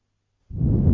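After a moment of silence, wind suddenly rushes in around a cube with a low, rumbling, buffeting roar that stays loud and steady, alone, with no voices.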